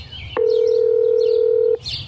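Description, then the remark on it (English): A loud, steady electronic phone tone holds for about a second and a half as a phone call to Jolene is placed, then cuts off abruptly, with faint bird chirps in the background before and after. “It seems a phone call to Jolene is in order.”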